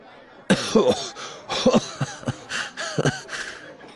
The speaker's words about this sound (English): Immediately, he began to cough. "When you're right..." He wheezed, tears coming out of his eyes. "You're right." His cough turned into a choking laugh.